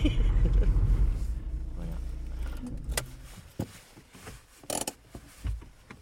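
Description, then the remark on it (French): A car rumbles low and heavy at first, its engine drone fading as it slows, followed by scattered clunks, rattles and bumps as it jolts over an unpaved dirt road. “Et là, ça roule encore plus difficilement, c'est pas goudronné.”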